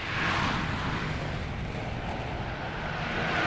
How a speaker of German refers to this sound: Lastwagen, Flugzeuge, Pkw, der Verkehr rollt.